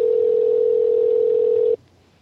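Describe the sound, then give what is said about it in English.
A single steady electronic ringing tone from an outgoing Skype call, a clear mid-pitched beep lasting nearly two seconds before cutting off to quiet, heard alone with no talking. “I don't hear anything ringing. Oh, can you hear that?”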